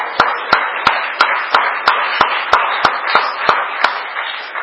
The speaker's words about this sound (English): I think we can, it's appropriate to give God a clap offering for what he's done